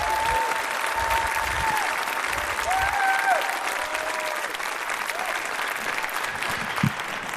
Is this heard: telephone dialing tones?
no